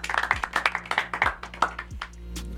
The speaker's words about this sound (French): Bon, voilà, bah merci pour ce petit jeu. Ça s'applaudit.